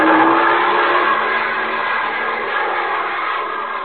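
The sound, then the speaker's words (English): A loud airplane engine roars steadily, a dense droning rumble that eases only slightly over a few seconds, with no voices, as the plane comes down toward the control tower of an airfield and is ordered to pull up. “Pull up, Drake. Pull up. You're heading for the tower.”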